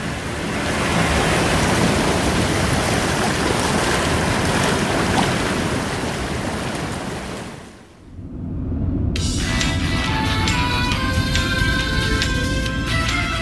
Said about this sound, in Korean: 안 그래도 니들한테 여기 파도 소리 들려주고 싶었어. 아빠는 살다가 힘들 때 있잖아. 속 시끄럽고 막막할 때. 그냥 여기 와서 파도 소리 들었어. 듣다 보면 그냥 좋아지더라고.